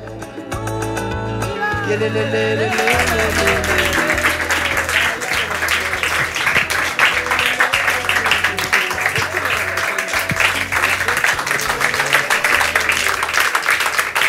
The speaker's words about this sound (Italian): chiedo a chi è qua nell'auditorium di accoglierle con un applauso, chiedo a chi è a casa di mettersi comodi sul divano, e appunto mentre loro salgono sul palco le saluterei con un applauso.